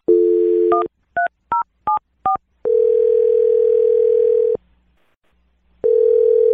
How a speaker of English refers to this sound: We're going to dial the phone number right now and attempt to get you another date here, yes.